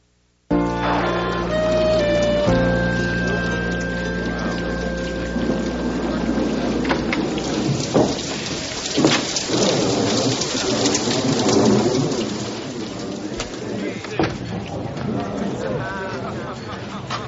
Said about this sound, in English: Well, that's some storm out there tonight, huh, Mr. Clavin?